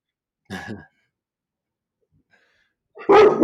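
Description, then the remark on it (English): Two dog barks: a short, moderate one, then a stretch of silence, then a louder, sharper bark. No one speaks. “We have dogs on the show.”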